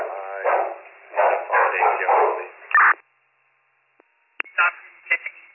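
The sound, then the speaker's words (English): A crackly, narrow-band radio transmission filled with loud barks from two dogs downstairs that drown out a muffled voice, then a click, a short silence, and a few more barking bursts over static. “I'm sorry, the dogs are drowning you out.”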